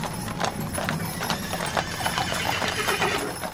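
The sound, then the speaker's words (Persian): Many horses gallop in a dense, rapid clatter of hooves as a leader and his 313 companions ride out of a fortress at dawn to defend it; a steady rhythmic pounding fills the whole stretch, with faint snorts or whinnies mixed in. “روز بعد همین که صبح طلوع کرد سوار بر اسب شدن و با 313 نفر از یارانشون با فریاد یا صاحب الزمان برای دفاع از قلعه بیرون رفت.”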